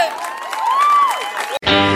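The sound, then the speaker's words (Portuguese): An audience at a live music performance applauds and cheers loudly, with a rising and falling whistle cutting through the clapping, before the noise breaks off into a sustained musical tone. “Uma salva de palmas, vocês foram foda!”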